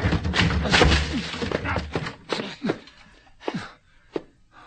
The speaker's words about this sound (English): Can't get this open. Okay. Whoever is hurt must be in there. Blasted door. Come on, we'll break it down.